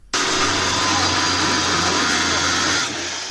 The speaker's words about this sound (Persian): صدای اره برقی نیروی انتظامی برای ورود به یک محل غیرقانونی استخراج بیت کوین، یکی از انواع رمزارزها.